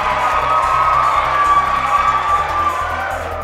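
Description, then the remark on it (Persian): A huge stadium crowd at a night football match roars and cheers steadily as fans sing and the teams, including Iran's national team, walk onto the pitch: a dense wall of voices with shrill whoops and shouts rising above it, loud and continuous throughout. “ورزشگاه مملو از تماشاگر است. هر شمع‌ها در هوا موج می‌زنند. هواداران سرود می‌خوانند و حالا لحظه ورود تیم ها فرا رسیده است.”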